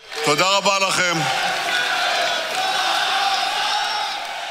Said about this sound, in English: He thanked them, and they are chanting, King of Israel.